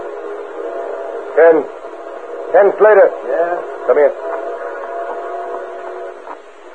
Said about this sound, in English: Grove near the railroad tracks, 4 men with their faces masked by bandanas waited tensely as they heard the distant whistle of an approaching train.